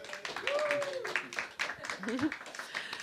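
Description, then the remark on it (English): A crowd claps and cheers, a dense wash of hand claps with whoops and a rising shout above it, steady and fairly loud throughout, welcoming two bands. “Give a big applause and welcome to ….”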